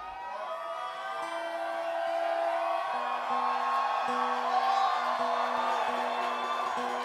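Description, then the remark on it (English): A large audience screams and whoops to push up a Yeehaw meter, in a continuous, loud roar that swells and holds for several seconds, with sustained tones running beneath the noise. “The louder you scream, the higher it goes.”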